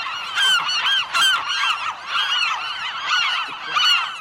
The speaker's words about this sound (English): The gulls are dive bombing and intimidating.